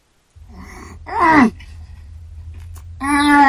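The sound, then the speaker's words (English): A voice imitates the groaning someone made after sipping Perrier water: a wavering, strained vocal moan with bending pitch, a pause with low rumble underneath, then a second louder, steadier groan held to the end. “Oh, and then of course the groaning.”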